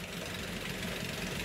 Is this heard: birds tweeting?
no